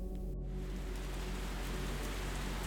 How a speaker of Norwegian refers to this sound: Etter få dager møter de på kraftig regn, noe som skal gjøre ventingen enda mer utfordrende og krevende.